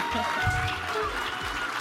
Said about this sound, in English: That is the sound of everyone clapping for us at the Sphinx Theater in the beautiful Sheraton in downtown Seattle.